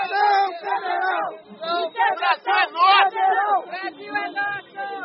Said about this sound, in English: A couple dozen protesters, they're shouting federal intervention. They want the military to come in and keep Bolsonaro in power.